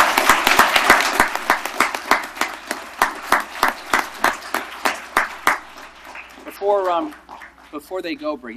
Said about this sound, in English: What a great job. Let's give them a round of applause for their...